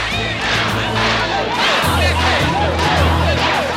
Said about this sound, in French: La foule est composée d'hommes et de femmes blancs en colère. Ils hurlent des insultes racistes et menacent Ruby.